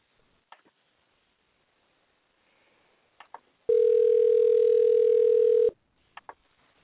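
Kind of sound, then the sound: signal or alarm, phone call ringing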